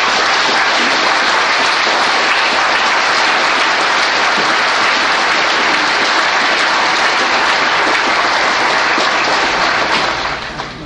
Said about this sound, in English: I want you people to give this man a round of applause.